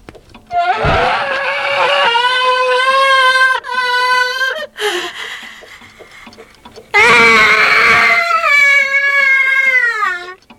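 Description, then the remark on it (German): A grandfather clock plays a loud recorded scream in two long, wavering wails, the first drawn out and trailing off, the second bursting in sharply and just as sustained, with no talking over it. “Hört mal, was die Standuhr kann.”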